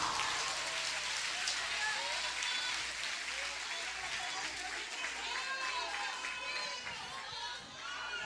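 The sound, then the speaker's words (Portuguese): An audience applauds the Lord in a dense, steady wash of clapping that holds at full strength throughout, with scattered voices calling out over it. “Aplauda o Senhor!”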